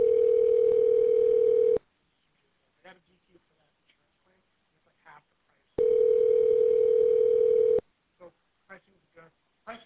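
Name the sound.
telephone ringback tone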